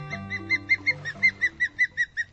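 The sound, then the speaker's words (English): A rapid, evenly spaced series of about a dozen high, sharp osprey chirps rings out clearly over a soft, low musical backdrop that fades as the calls continue. “To the untrained eye, the osprey looks just like a bird of prey should.”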